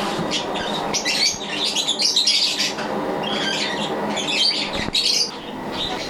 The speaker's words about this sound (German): Und hier hören wir gerade schon die Vögel. Hier hören wir die Vögel.